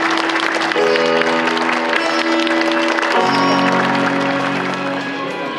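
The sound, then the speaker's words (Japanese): Wedding guests clap loudly and steadily for several seconds for the bride and groom as they take their seats at the front, the dense applause running over sustained music that shifts chords partway through. “お二人に今一度大きな拍手をお願いいたします。”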